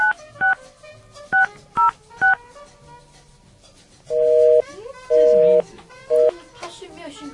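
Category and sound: signal or alarm, telephone keypad dialing tones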